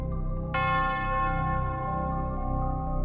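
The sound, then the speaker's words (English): A single deep bell tolls once in the distance, signaling that someone has died, and rings out slowly, its long resonant tone decaying over a low, steady background rumble. “As you do, you hear a bell toll off in the distance, signaling that someone had died.”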